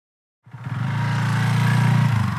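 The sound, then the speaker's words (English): A motorcycle engine rumbles in abruptly after a brief silence as it pulls up in Key West, Florida, its deep, throbbing growl swelling slightly and holding steady, loud with no voices. “I wasn't expecting you to pull up on a motorcycle.”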